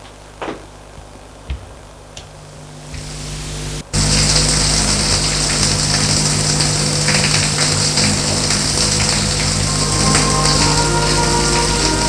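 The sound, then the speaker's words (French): A few faint clicks and taps, then a shower abruptly turns on at about four seconds and runs steadily in a shower room as a man takes his shower, a loud hiss of spraying water with no voices. “Sa chambre pour aller à la salle d'eau prendre sa douche.”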